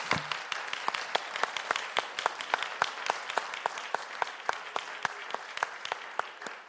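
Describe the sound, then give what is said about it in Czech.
A crowd applauds steadily for several seconds to welcome a guest, dense overlapping claps with sharper individual claps standing out, moderately loud, with no talking over it. “za chvíli přivítáme ještě ostatní, ale můžeme potleskem přivítat”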